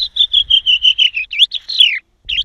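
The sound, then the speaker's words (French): A reigning European champion bird imitator whistles an imitation of a chaffinch's song using mouth, tongue and throat movements: a quick run of about nine bright, repeated high notes ending in a descending flourish, then one short extra chirp after a brief pause. “Et avec des mouvements de bouche, de langue, de gorge, vous arrivez à produire différents sons. Le pinson.”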